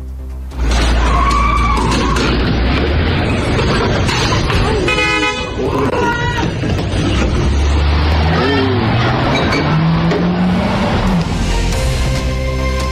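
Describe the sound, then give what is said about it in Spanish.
A car roars as a woman reverses it at high speed to ram thieves trying to steal it, engine revving and tires skidding, with horn toots and a loud crashing jolt as it hits the front of a house, amid continuous, noisy commotion. “el video, porque habla por sí solo de la reacción de esta mujer echando marcha atrás su vehículo, chocando a los ladrones y evitando que le robaran su automóvil estos delincuentes.”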